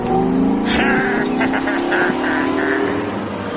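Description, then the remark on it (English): A car engine revs loudly, its pitch climbing steadily as the vehicle accelerates away, a continuous strained roar that carries on for a few seconds without anyone speaking. “Hey, you pull the car over right now!”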